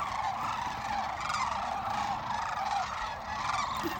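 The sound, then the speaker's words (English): A large flock of birds calls as it lifts off from its marshalling area to fly to the river, a dense, continuous chorus of overlapping honking and trumpeting cries holding steady throughout, with no voices. “Okay, they're coming, they're just lifting off from their marshalling area to go to the river right now.”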